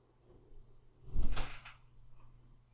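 A door opens or shuts once with a dull thud and a short scraping swish, set against a low, steady background hum; no one speaks.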